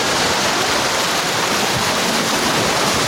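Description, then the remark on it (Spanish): The Río Verde rushes steadily along its bank at the community of Paso de la Reina, a dense, continuous wash of flowing water with no pauses and no voices. “Así suena la ribera del Río Verde en la comunidad de Paso de la Reina.”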